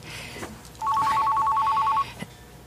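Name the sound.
mobile phone ringing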